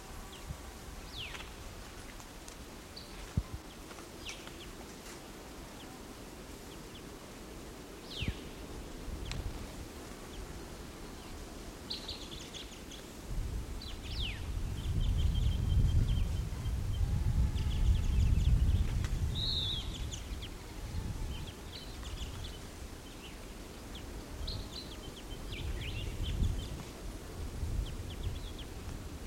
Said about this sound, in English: Okay, I just recorded that bird, so he's still calling a little bit. Let's see. Calling fairly softly.